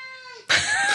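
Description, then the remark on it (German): A cat meows twice: a drawn-out, tonal cry that slides downward, then a louder, harsher yowl, strained and complaining, with no talking. “Die Katze will gestressen weg hier.”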